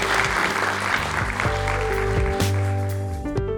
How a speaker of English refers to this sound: Thank you so much. Let's give them a big round of applause for us.